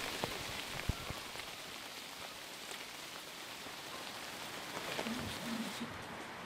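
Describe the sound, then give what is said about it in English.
Steady rain patters on surfaces by a small old hunter's hut, a dense hiss sprinkled with sharper individual drops and occasional heavier plinks, continuous, with no voices. “it's so wet. I'm going to just walk back to the small hut here, the old hunter's hut, and have a chat to Clive. Out of the rain.”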